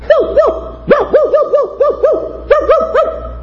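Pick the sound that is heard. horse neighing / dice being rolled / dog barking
dog barking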